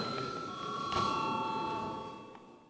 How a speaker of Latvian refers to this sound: Deputāti prasa balsojumu, lūdzu zvanu.